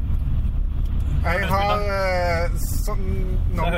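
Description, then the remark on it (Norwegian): A steady low rumble fills the space, like sitting inside a moving car, with people talking over the constant engine and road drone. “Hvorfor sitter vi og tar spalter I bilen her nå?”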